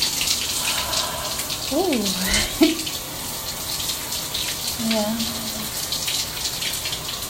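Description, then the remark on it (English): Shower water runs in a steady hiss throughout, with a couple of brief, soft voice-like murmurs rising over it partway through. “Do you think after we get out of the shower, I could make you breakfast?”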